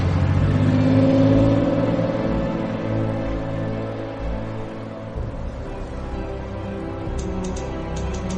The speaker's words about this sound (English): Outside a house, DeLine sits in a car and watches as a station wagon pulls out of the driveway, then drives along a tree-lined road.